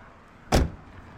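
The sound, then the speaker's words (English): A single solid thump of a car door shutting as people hop out of the car after parking by a house with a small lawn, fairly loud, standing out briefly against quiet outdoor background noise with no talking. “After parking, we hop out of the car and start to make our way across the small lawn, leaves crunching beneath our feet.”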